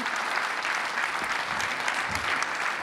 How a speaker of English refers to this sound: Please give a round of applause to these amazing people.